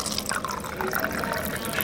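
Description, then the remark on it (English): Water pours steadily from a water cooler in a church basement, used instead of a drinking fountain, a continuous splashing and filling sound with faint bubbling, lasting a couple of seconds without a break. “Right next to it is a water cooler that everybody uses instead.”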